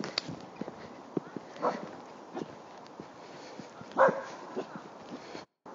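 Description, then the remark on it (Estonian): A dog barks several times at irregular intervals, muffled, with one louder bark standing out near the end; no one speaks. “Pidingi vahepeal panema pausile ja koera siin õikama.”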